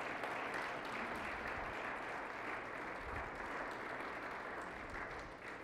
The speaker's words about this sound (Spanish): ¿Por qué no le dan un fuerte aplauso al Señor por esa palabra?